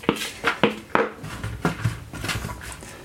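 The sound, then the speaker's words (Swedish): Chunks of root vegetables tossed with oil, salt and pepper tumble into an oven-safe dish for roasting, with a quick run of clattering knocks, followed by softer scraping and shuffling as the last pieces slide in. “Så slår jag upp dem på en ugnssäker form.”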